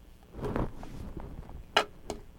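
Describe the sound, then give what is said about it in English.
A few irregular sharp knocks as ice cream is banged against a pitcher, with brief pauses between the hits and no talking. “Are you banging the ice cream on the pitcher?”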